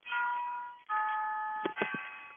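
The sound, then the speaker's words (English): An old, real (not electronic) mechanical clock that must be wound every 8 days chimes, two sustained bell-like tones ringing out one after another, followed by a few brief lower clunks near the end. No one speaks. “We've learned to incorporate your clock. Is that like a real one or an electronic one? No, it's a real one. It's an old one.”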